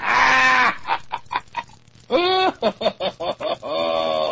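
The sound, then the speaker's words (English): A guinea fowl named Guineabill calls loudly with harsh, rasping cries: a long grating burst, a series of quick choppy notes, then another sustained raspy call. No one speaks. “Guineabill ain't gone to bed yet”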